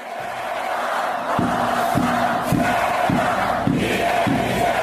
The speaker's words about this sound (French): En Turquie, à Adana, une foule impressionnante envahit les rues